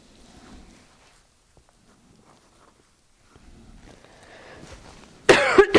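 After several seconds of faint shuffling and room noise, a person lets out a sudden loud cough, a harsh burst followed by a couple of quick rough hacks at the very end.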